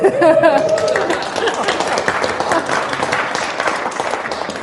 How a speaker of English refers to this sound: Gets an applause at the beginning. Fantastic.